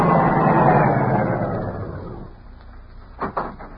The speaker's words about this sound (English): Yeah, I got it. Car coming.